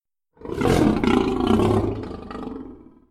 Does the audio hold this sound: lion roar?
yes